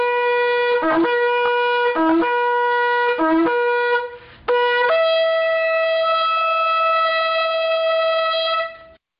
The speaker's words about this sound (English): would you please release the sound of the shofar and the roar of the Lion of Judah, and Ricky will get us started.